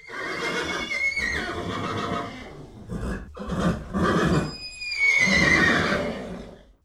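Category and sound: animal, horses neighing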